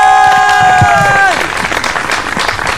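A crowd bursts into steady, loud applause with scattered cheering, taking over as a bright held musical tone bends downward and drops away.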